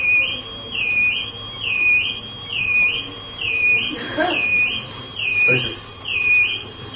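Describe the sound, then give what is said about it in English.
A high, warbling electronic alarm wails continuously, rising and falling in a steady repeating cycle about every 1.2 seconds, with faint background noise beneath it. “The alarms are going off. Somebody's alarm is going off.”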